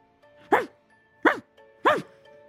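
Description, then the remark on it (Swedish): A person crawling on all fours in a role-play imitates a dog barking, giving three short, evenly spaced woofs with voiced, slightly falling pitch, each loud and abrupt, separated by brief quiet gaps. “Du är en hund nu då?”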